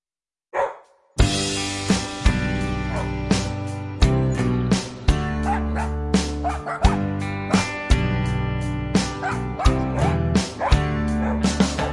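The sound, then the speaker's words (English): Several different dogs in a park bark and yip in quick, repeated bursts, some higher and some deeper, over a steady, bright musical accompaniment that plays throughout. “Different dogs in the park.”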